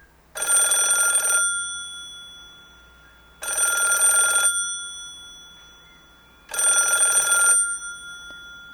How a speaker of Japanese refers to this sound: ある寒い夜のこと、熊のおじいさんがうとうとと眠っていると、どこかで電話が鳴っています。